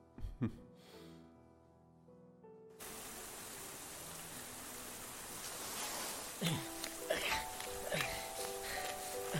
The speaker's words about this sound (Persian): مگه نمیبینی بارون میاد چرا بیرون وایستادی؟